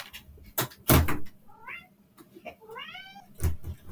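A cat meows twice, short rising-falling cries, amid a few sharp knocks and thumps like a door or cupboard being handled.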